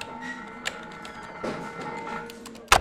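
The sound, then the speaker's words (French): A sharp mechanical click, like an administration's answering machine switching over to the next case, snaps out near the end over a steady electronic hum, after a fainter tick earlier and soft background noise. “Quand il passe à une affaire suivante, il claque.”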